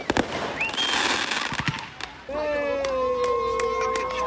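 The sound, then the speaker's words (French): Dense, crackling applause from an outdoor crowd at the close of a town's cinema evening, which ended with fireworks, fills the first two seconds, mixed with sharp pops, then gives way to steady, sustained whistling tones that carry on to the end. “La soirée s'est terminée sous les feux d'artifice et les applaudissements des personnes présentes.”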